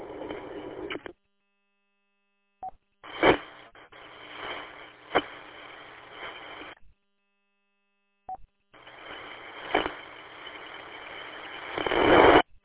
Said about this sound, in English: This is weird. I see up on this radio, it causes my paper shredder to go off when I'm in proximity.